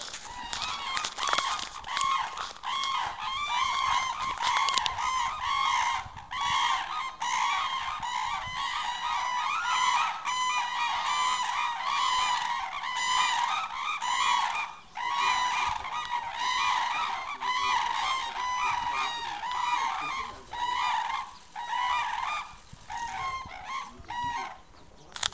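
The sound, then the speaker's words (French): A flock of several dozen dancing birds suddenly cries out in alarm, stretching their necks toward the sky and walking; dozens of loud, overlapping honking calls merge into a continuous clamour that barely pauses for about twenty-five seconds. “Donc on a eu plusieurs dizaines d'oiseaux qui se sont mis tout d'un coup à redresser le cou vers le ciel et à s'être à marcher en criant comme ça.”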